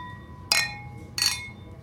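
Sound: beer glasses clinking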